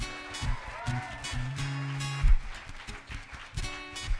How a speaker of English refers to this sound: Feel free to keep up the clapping in this one.